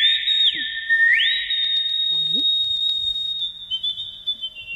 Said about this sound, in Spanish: ¿Quieres ya? Que silbe. Que silbe, va, que silbe.